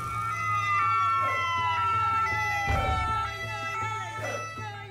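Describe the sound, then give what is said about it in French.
A loud ambulance siren wails with a slow, descending tone, steady throughout, with periodic whooshing bursts and a low rumble underneath. “on a même prévu une ambulance avec Santé Campus, ça rigole zéro”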